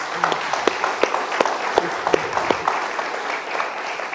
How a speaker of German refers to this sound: Also da könnt ihr auch gerne nochmal klatschen.